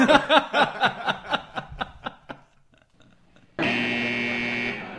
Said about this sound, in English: Wrong. And so that is definitely the wrong idea. That's why I buzzed you twice.